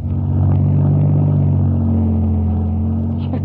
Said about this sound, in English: Relax, son. We'll just back out of the drive nice and slow.